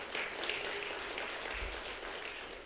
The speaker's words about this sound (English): Yeah, our worship team does a wonderful job. They're all sick, and they're singing really good. Amen. I can't applaud well, but we can. Amen. Thank you all.